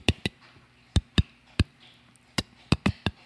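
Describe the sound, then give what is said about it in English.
A voice recreating a recording of a crying tomato with a string of about nine sharp, dry clicks, irregularly spaced and sometimes paired, crisp and moderately loud with no speech around them. “Can you go back and play one more recording of that tomato crying?”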